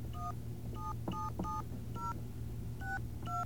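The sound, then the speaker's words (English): A rapid string of about seven short telephone keypad dialing tones, each a crisp two-note beep, punched in at an uneven pace over a steady low hum, with no voices. “Okay, now they're working, but I have to hang up and start again because I dialed wrong.”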